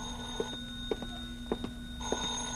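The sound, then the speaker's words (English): A telephone bell rings in short, evenly spaced bursts, about four strikes in under three seconds, over a steady low hum, with no voices. “Then I packed a bag, was about to take off, when the phone rang again.”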